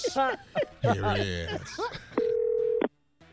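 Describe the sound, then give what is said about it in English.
A telephone rings once as a call begins, a single steady electronic tone lasting under a second, loud, following a few moments of voice-like sound. “Please gather your thoughts, if you would, as we go to the phone call of weed on the church bus.”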